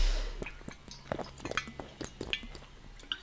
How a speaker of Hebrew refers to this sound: אני חייבת לקחת שלוק מים, אז חייבת, חייבת, חייבת,